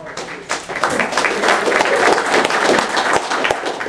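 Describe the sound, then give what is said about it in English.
An audience claps steadily, a dense, crackling wash of many hands that stays loud and even for a few seconds without easing off. “Either rock and applause or play us later.”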